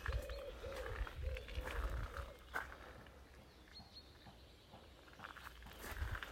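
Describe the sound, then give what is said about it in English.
Footsteps crunch on gravel as someone walks round the side of a barn at a steady walking pace, fairly quiet, then pause briefly before a few more crunching steps return near the end. No one speaks. “So these little crunching noises or where I'm walking on the gravel.”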